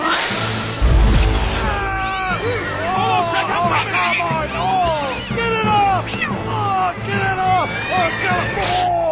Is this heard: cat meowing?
yes